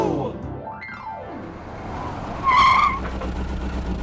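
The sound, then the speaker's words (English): A small electric toy detective car whooshes past with a rising then falling engine whine, followed by a loud, high-pitched tire screech as it skids to a stop; no one speaks. “We took my detective car to Amara's house.”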